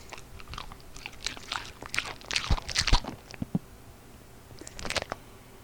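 Crunchy eating of a Cheez-It cracker: a run of wet bites and chews with crackling bursts, a pause, then a final short smacking lick-like sound near the end. No talking.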